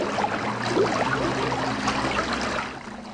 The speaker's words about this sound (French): La rivière coule bien, là. C'est très bien.